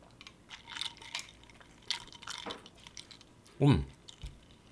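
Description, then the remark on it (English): Sipping from a cocktail glass, with faint clinks of ice early on and one louder, wet slurp near the end, set against low background noise. “All right. Sips.”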